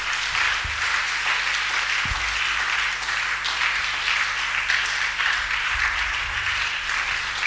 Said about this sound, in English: Oh, I'm not hearing an amen. Oh, would you clap for God for what he has done for you?